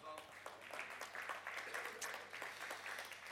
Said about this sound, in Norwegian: For en enorm applaus. Jeg fristet til å bare sette meg ned og slutte nå, for man har nått toppunktet uten tvil med denne applausen.